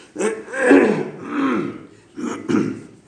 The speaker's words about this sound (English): I apologize for needing to clear my throat so much.